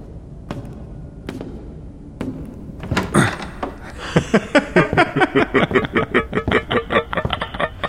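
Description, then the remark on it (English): A heavy door to the halls under an estate thuds a few times, then bangs open with a loud clunk, followed by a steady run of rapid, rhythmic clanking rattles, with no voices. “Did we leave this unlocked?”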